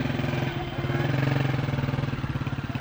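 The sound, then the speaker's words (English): A steady flow of street traffic on Street 45 in Sana'a, Yemen, just before noon, with cars jamming the lanes, dominated by a loud, continuous motorcycle engine, its low throbbing hum pulsing rapidly and rising slightly in intensity before settling back into a steady rumble. “It's a steady flow of traffic on Street 45 just before noon.”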